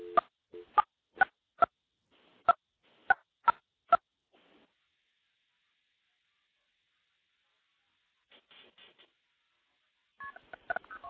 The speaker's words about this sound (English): Now we're going to dial into my Project MF box.